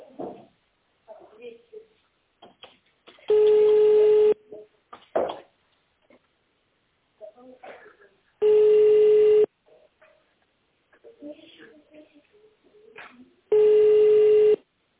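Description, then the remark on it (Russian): Three loud, steady telephone line tones, each about a second long, repeat roughly every five seconds on a company phone line whose automated greeting asks callers to dial an extension in tone mode or wait for the secretary, with quieter speech and scattered faint sounds in the gaps. “Наберите внутренний номер абонента в тоновом режиме или дождитесь ответа секретаря.”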